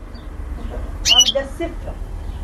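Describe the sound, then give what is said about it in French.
Two small birds, kept in a small recess that serves as their cage in a family home, give a quick burst of high, bright chirps midway through, indoors, over a low steady room hum. “À droite du petit renfoncement qui sert de cage à deux oiseaux”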